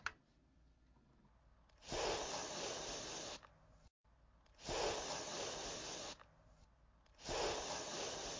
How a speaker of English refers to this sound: It's an aerosol can of some kind. Are we gonna go? You gonna go aerosol? I'm gonna go with you on this one. I think this one's aerosol.